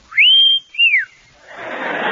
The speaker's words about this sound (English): Wish I could whistle. I'll try.